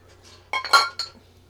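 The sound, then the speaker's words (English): Beer glasses clink together in a toast, a quick cluster of bright, ringing knocks, with a faint low hum underneath and no one speaking. “Clunk. That was like fucking swords.”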